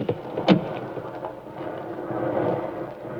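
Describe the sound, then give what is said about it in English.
Heavy rain pours down by a ruined farmhouse four miles from the front line, in a steady, dense hiss that swells slightly over a few seconds, with a sharp sudden crack near the start and no voices. “Good Lord, it's pelting with rain.”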